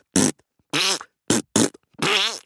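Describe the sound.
Five loud, wet armpit farts by a sixth-grade boy in quick succession, some short and sputtering, others longer with a wobbling, bending pitch, with no talking.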